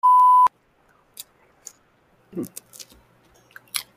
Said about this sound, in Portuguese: pelo amor de Deus, para de mastigar o que você está mastigando. Eu sei que você deve estar com fome, mas eu vou tirar todas as suas mastigações na edição.